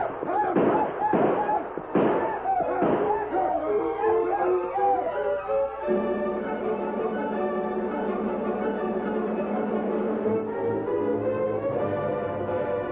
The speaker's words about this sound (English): The black leader broke his stride when he heard the shots and yelling ahead of him.